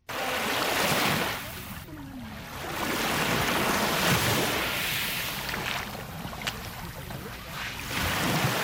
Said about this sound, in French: Des vagues matinales embrassent la plage du lac Tanganyika à Kadiaga, dans la commune de Mutimbuzi, en province de Bujumbura rurale.